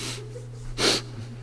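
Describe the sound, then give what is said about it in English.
A single short, breathy sniff through the nose from a person with a bit of the sniffles, fairly loud, standing out against a low steady hum in otherwise quiet surroundings. “I've got a little bit of a sniffles yet, and I don't need the cool air on me, although many days that would be a great thing.”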